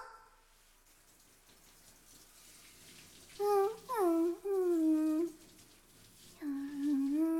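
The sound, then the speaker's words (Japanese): Water rinses off soap lather with a soft, steady splashing hiss. Partway through, loud high-pitched gliding vocal whines break in several times over the running water. “よし、綺麗に泡立ったし、じゃあ流すよ。”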